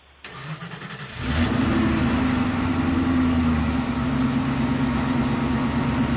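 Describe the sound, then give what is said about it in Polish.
A car engine starts up with a brief crank, then settles into a steady, loud running rumble that continues for several seconds, with no voices. “Auto. Bardzo dobrze.”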